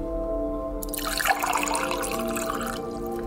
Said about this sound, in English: So, to prove that plants breathe and to prove that photosynthesis happens, we're going to fill a large bowl with lukewarm water.